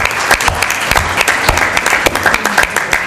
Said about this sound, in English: So I'd like everybody to join with me in a normal round of applause for our panel. Thank you very much.